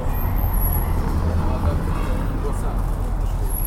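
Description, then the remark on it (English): Cars roll steadily over the cobbles of Kralja Petra, one of the oldest streets in Belgrade, in the late afternoon, producing a continuous low, rumbling road noise, with people talking over the traffic throughout. “You can hear the cars going along the cobbles, but as late afternoon turns into early evening, it's also one of the busiest”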